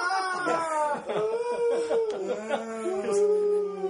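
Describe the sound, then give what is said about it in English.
Several children scream and wail at once, their high, drawn-out cries overlapping and wavering in pitch, loud and unbroken for about four seconds. “If we do get off topic and we start to stretch it a bit, what I'm going to do is I'll actually, we'll play the kids screaming from the Six Things Travel.”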